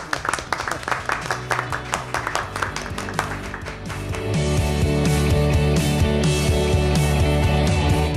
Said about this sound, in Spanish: Oye, ¿nos damos un aplauso? Venga, un aplauso. Nos lo merece.